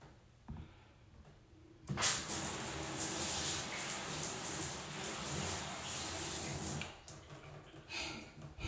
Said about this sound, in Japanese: ちょっとシャワーを出してみますよ。